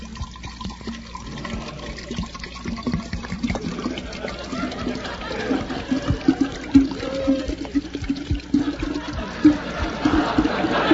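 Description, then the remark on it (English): A small shot of straight wood alcohol pours steadily into a glass for about ten seconds, a continuous gurgling splash whose tone rises gradually as the glass fills, with no voices. “Well, pour me out a small shot. Okay, safe when.”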